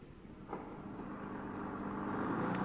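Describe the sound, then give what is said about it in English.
A car engine hums and rumbles steadily, gradually growing a little louder as if the vehicle is under way. No one speaks. “I'll go in the car.”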